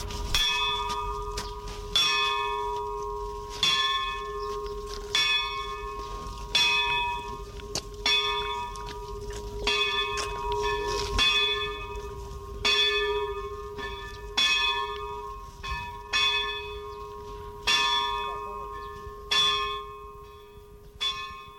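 A church bell tolls repeatedly in a steady, slow rhythm, each strike ringing out with a long, humming resonance that overlaps the next. No voices are heard.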